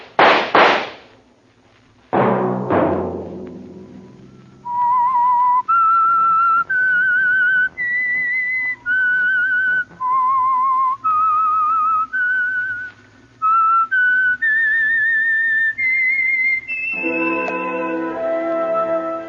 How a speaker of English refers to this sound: Let that whistle be your signal for the Signal Oil program, The Whistler, each Sunday night at this same time.